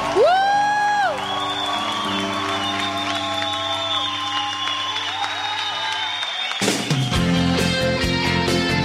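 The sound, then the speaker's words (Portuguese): A crowd applauding Our Lady (Nossa Senhora) claps and cheers steadily, with shrill whistles and sustained horn-like tones over the top. A louder, rougher burst of crowd noise swells near the end. “Aplauda Nossa Senhora.”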